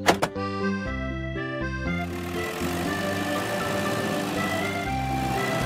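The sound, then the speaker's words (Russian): A short tonal jingle gives way to the steady, buzzing engine drone of a front loader driving up to clear snow, fairly loud, with no one talking. “Погрузчик приехал убирать снег.”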